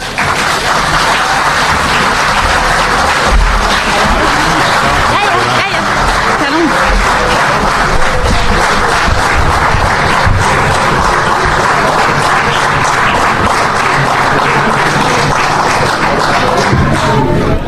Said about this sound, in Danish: Det er dagens længste bifald.